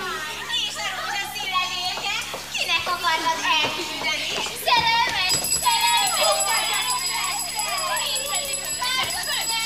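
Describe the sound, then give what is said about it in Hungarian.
A group of uniformed boarding-school girls shrieks, laughs and calls out as they run about a hall playing chase, a lively, overlapping commotion throughout. Midway, a steady high-pitched ringing joins the noise as their governess comes in shaking a bell. “Egyenruhás intézeti lányok futkároznak kergetőzve a teremben.”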